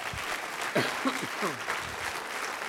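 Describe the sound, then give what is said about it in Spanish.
An audience applauds in a steady, dense wash of clapping that lasts throughout, with a few voices calling out over it. “Aplauda al Rey de Reyes.”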